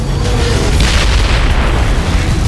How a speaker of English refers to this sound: The Doombot crashed to the pavement in a shower of sparks and lay still.